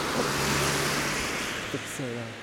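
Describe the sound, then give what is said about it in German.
Continuous road traffic roars, a dense wash of tyre and engine noise from many cars driving past one after another on a road, none of them stopping, with a brief rising engine whine near the end. “Ein Auto nach dem anderen fährt hier vorbei.”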